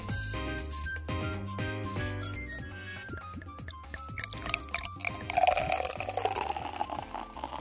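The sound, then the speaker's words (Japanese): Pink, carbonated Lejay Cassis drink is poured steadily into a glass, its gurgling tone rising in pitch as the glass fills, then giving way to a bright, crackling fizz of carbonation. “なんかピンクの液体がすごい可愛い、いいですね。今日も炭酸ですね。”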